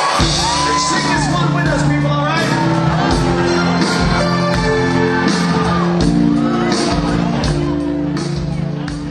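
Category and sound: crowd, concert crowd screaming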